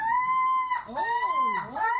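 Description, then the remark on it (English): A person imitates a crow's call: a loud, sustained nasal tone followed by two swooping, warbling dips in pitch, with no other talking. “That's when they're calling the rest over, like, hey, I found food.”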